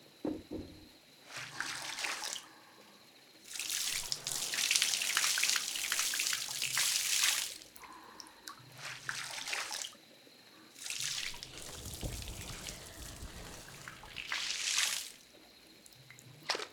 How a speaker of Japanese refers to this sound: ではお湯をかけていきます。こちらの桶でゆっくりかけ流していきます。優しい滝行のような流し方です。